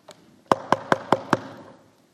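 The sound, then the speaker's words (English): Five firm knocks on a door in a quick, even rhythm, preceded by a faint tap, each strike sharp and resonant with a short ringing decay, clear with no voices. “And then I said, I want you to imagine right at that moment that you hear this at the door.”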